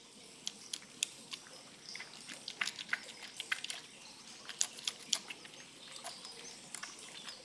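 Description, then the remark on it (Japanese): Soft, wet squelching and crackling as shaved homemade soap from a hot spring resort is whipped into lather for use as shampoo, a steady stream of small irregular clicks and pops, with no one talking. “そして泡立てる。”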